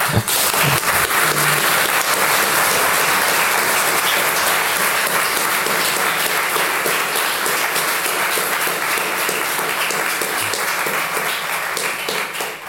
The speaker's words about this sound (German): Ja, ein großartiger Applaus und ein großartiger Vortrag, der auch dazu sehr gut passt. Insofern danke euch auf jeden Fall.